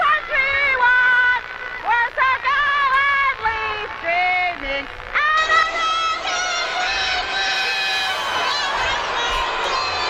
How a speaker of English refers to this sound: They're booing her down.